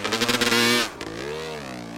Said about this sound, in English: nobody around to anger with the loud roar of his two-stroke Yamaha off-roader. After a hasty breakfast of scrambled eggs and black coffee, he switched on the ignition and revved out of his garage onto the remote trails of western Maricopa County.